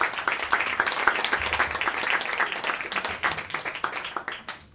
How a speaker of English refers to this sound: Are you ready for your next storyteller? Yes. Okay, I want the applause to come from you, sir. Please welcome to the stage